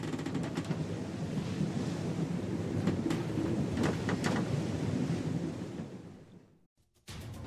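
A loud, steady thunderstorm roar off the coast of Greece: deep rumbling thunder and rushing wind with sharp crackling bursts, no voices, briefly dropping away near the end before surging back.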